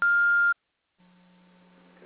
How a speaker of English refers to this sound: Can't take your call now. You can leave a message after the tone. When you have finished, press the pound key or just hang up.